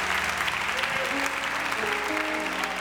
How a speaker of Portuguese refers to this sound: Pode aplaudir Jesus, que ele é digno de honra e de glória.